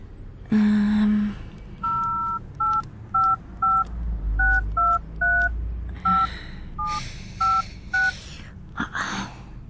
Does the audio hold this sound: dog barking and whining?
no